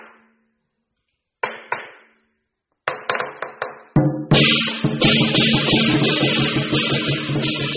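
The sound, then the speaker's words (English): Lion dance percussion at a Chinese New Year (Year of the Rabbit) celebration in London, played by a team from the Nanyang Martial Arts Center: a few sharp, scattered strikes, then a loud, steady clash of drums and cymbals that keeps pounding in a driving rhythm. No one speaks. “在伦敦春节期间，最引人注目的莫过于舞龙舞狮表演了。 Listen, they are coming。”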